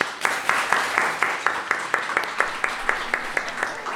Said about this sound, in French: Et nous vous remercions donc toutes et tous pour votre attention et pour nos invités, chroniqueurs, techniciens, musiciens. Un maximum d'applaudissements quand même.